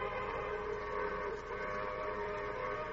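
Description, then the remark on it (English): A train whistle sounds at a railroad station as the train signals it will stop, in one long, unbroken blast, a steady chord of harmonic tones holding at an even loudness for the full few seconds with no voices. “Hey, there's the whistle, Roy.”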